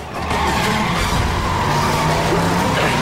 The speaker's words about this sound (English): The torch begins driving more and more erratically, trying to throw Jake from the side of the ambulance.